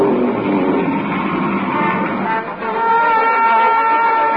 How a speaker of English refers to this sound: I was right outside when that whale sneezed, and that raft shot out like a cannonball.